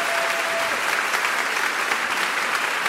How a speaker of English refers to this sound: And I think Mo deserves a round of applause for that generosity.